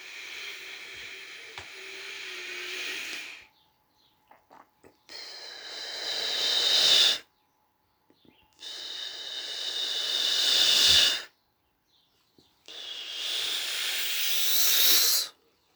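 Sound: slow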